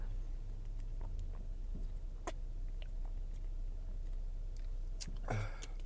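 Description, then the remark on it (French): Quiet mouth sounds of someone sipping water from a President Choice Natural Spring plastic bottle: soft wet clicks and small swallows over a low steady hum, ending with a brief louder crinkle of plastic. “Attends un petit instant, une petite gorgée d'eau.”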